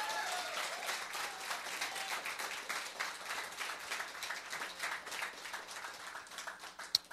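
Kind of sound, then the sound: crowd, audience applauding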